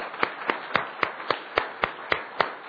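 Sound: hand clapping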